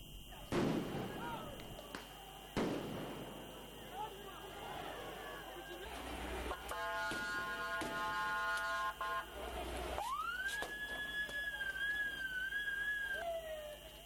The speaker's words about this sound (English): Riot police in Athens fired tear gas and water cannons to disperse the protesters. This is the second rally in a week in Greece against the COVID vaccination drive.